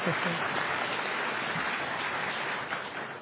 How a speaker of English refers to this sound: Doesn't it feel good when you just express yourself? Why do some people clap and then stop?